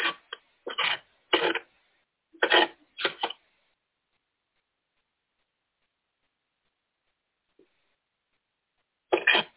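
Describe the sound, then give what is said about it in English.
Someone wrenching on a truck: a quick, irregular run of clanking mechanical knocks, then a long silence before one final clank. No one talks. “Sounds like Brother Dan's wrenching on his truck.”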